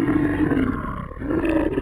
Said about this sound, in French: Mais là, on peut entendre au loin un grognement.